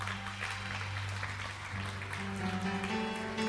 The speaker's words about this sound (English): If you prayed that prayer today, we say welcome back home to the family of God. Let's give him a hand clap, yeah.